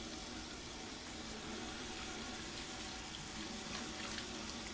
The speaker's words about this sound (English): Moments later, Ray steps into a washroom. He turns a faucet on.